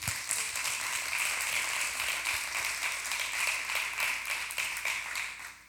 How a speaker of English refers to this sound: You can do it, men. There is greatness in you. You can do it. Ladies, let's give our men a hand clap. They need it.